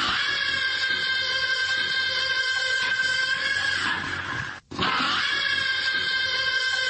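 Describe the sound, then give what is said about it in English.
A singer's voice, in the style of a singer, imitates a forklift with a loud, sustained, high-pitched mechanical whine that holds a steady pitch, breaks off briefly near the end, then resumes. “So it's that whoever did this thinks he sounds like a forklift.”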